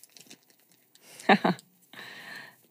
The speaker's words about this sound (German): Genau, du darfst ruhig mal ein bisschen kruscheln. Ist heute alles erlaubt. Und dann genau den Glückskeks öffnen und uns, wenn du ihn dann hast, den Spruch verlesen.